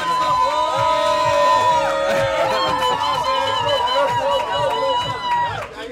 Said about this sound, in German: Ich sehe schon, da jubeln die Leute schon.